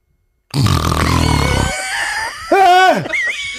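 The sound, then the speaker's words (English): A voice imitates a wife's loud snoring in the middle of the night: a long, rough, buzzing rasp, a brief pause, then a high, strained squeal that rises and drops, trailing off into a thinner nasal whine. “this is how my wife snores.”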